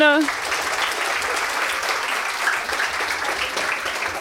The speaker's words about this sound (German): Im Beta-Haus, genau, einmal Applaus für die.